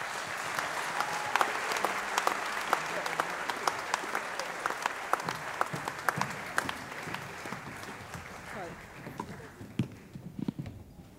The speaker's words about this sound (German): Dankeschön. Applaus für die Kinder.